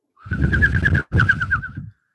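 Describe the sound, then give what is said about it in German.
Two warbling coos like a dove's call, each about a second long with a brief pause between, imitated as a joke by a human voice in a studio, with a whistly, fluttering tone. “Wir haben einen Vogel im Studio.”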